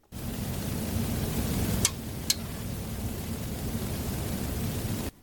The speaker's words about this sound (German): Das klingt wie Regen. Ja, das Rauschen ist ein bisschen lauter. Rauschen, ja. Ja, es geht eigentlich um dieses Klickgeräusch, dieses... Wenn etwas nicht richtig über den Äther geht, wenn eine Störung ist.